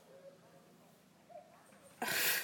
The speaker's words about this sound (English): This has got to be undoubtedly the loudest cuckoo I've ever heard in my life.